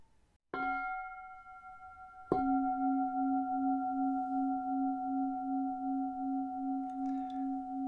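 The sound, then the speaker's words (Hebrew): A meditation bell is struck twice, the second strike ringing out in a long, steady tone with a slow pulsing waver in its low hum, with no voices. “צליל הפעמון נשמע כך.”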